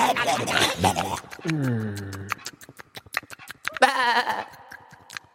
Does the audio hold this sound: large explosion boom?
no